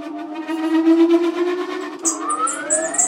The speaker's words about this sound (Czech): A teď už je tady vidět hřídel, která vede vlastně z těch vnitřních lopatek té turbíny. A zapnu motor.